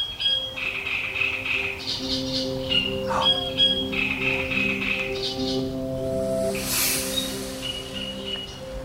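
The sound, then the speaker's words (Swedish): A great reed warbler sings from its territory in a reed clump by a lake in still, windless weather, harsh repeated chattering phrases with brief pauses between them, over a steady low drone of car traffic. “Men inget som överröstar trastsångaren.”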